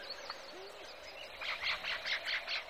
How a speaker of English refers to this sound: The choruses in that healthy habitat went like this. First, the insects establish their acoustic territory within the frequency spectrum. And then the reptiles and the amphibians join the chorus, establishing other niches. Then come the birds.